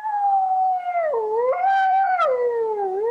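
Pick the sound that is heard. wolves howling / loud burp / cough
wolves howling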